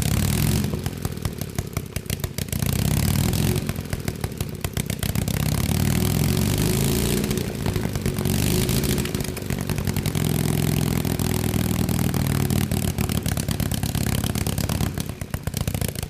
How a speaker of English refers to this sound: They're really unique because there's no exhaust pipes on them. So the ports into the cylinder are open, and flames actually shoot out when it runs. So it's pretty neat.